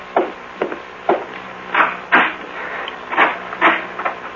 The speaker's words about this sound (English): Oh, the door, someone there.